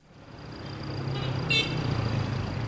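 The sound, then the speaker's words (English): Steady low rumble of city street traffic with engines idling and passing, where children weave between the cars begging for money, broken by one short, sharp car horn toot partway through. No one speaks. “Day and night, tens of thousands of children weave through these cars begging for money in a city targeted by suicide bombers and criminal gangs who traffic in people and drugs.”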